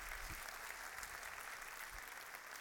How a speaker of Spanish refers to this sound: Dele un aplauso a su fabricante, a su hacedor.